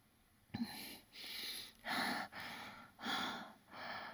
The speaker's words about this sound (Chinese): 嘴中止不住呼呼的一直在喘。